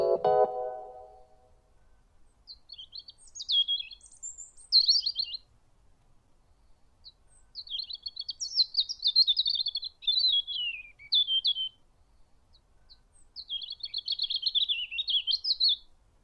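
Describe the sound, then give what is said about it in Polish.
Bright, warbling spring birdsong in several phrases of rapid chirps and trills, high-pitched and clear against a quiet outdoor background, with a brief low sound at the very start. “Z ptasiego na polski tłumaczy ornitolog”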